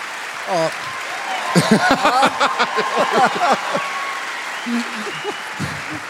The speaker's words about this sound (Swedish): En stor applåd till Fia Lohanström.